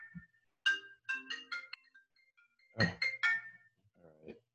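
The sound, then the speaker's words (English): An incoming phone call ringing on an iPad linked to a phone: bright, chiming electronic notes in a quick melodic phrase, a short pause, then the phrase repeats. A brief voice follows at the end. “My iPad is linked to my phone, and I keep forgetting that anything that comes through my phone is also going to come through my iPad.”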